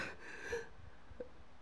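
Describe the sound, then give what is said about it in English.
A single sneeze bursts out with a sharp, breathy rush of air that fades within half a second, followed by a brief faint click and quiet room tone. No one speaks. “Bless you.”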